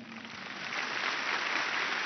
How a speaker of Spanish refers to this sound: Un aplauso larguísimo recibió la canonización de los videntes de Fátima, Francisco y Jacinta Marto.